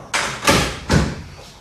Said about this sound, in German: Tür auf. Klappe zu.